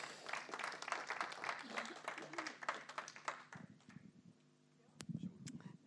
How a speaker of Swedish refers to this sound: Ska vi ge henne en applåd